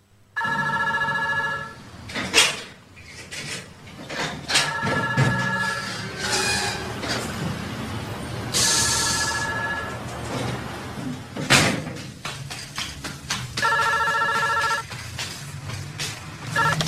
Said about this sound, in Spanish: El teléfono estaba sonando.